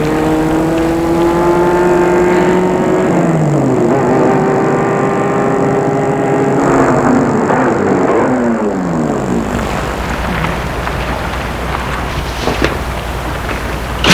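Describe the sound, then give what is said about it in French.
A black car drives along a small street in the morning and pulls up, its steady engine hum shifting in pitch as it slows, with no voices, only a faint breezy background. “Tout à coup, une voiture va vers elle, une voiture noire.”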